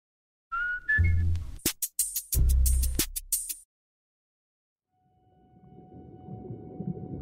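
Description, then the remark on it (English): Orca killer whale vocalizations: a short rising whistle, then loud bursts of pulsed calls and sharp clicks, fading into a quieter underwater rumble with a faint steady tone. “In 1984, I found the perfect place to study the orca killer whales year-round.”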